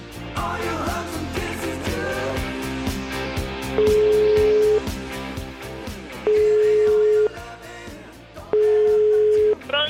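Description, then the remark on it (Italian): A phone's ringing tone while dialing a mobile phone sounds three times, each a steady, loud one-second beep with long pauses between, over busy background music and no voices. “Io una telefonatina, però, vediamo un po' se rispondo al cellulare.”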